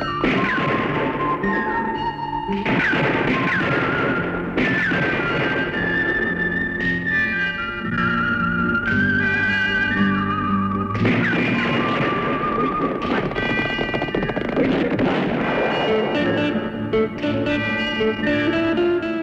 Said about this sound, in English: And we'll hear those gunshots being used as part of the score in this.